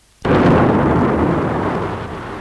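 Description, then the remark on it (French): A sudden crack of thunder breaks in and swells into a loud, deep rumble that rolls on and only slowly fades, with no voices over it. “Le bruit de l'orage, les éclairs donnent l'impression que le lit se trouve au milieu de la mer.”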